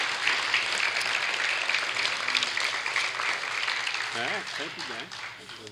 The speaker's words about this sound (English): So very good. Give these guys a round of applause for job well done.